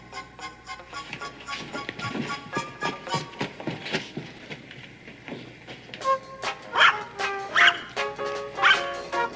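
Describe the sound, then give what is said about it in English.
Several dogs performing backflips bark and yip in quick, excited bursts, the high-pitched yaps coming in a rapid, uneven stream that grows louder and sharper toward the end, with no one talking. “Isn't that terrific the way they can make those dogs do those backflips?”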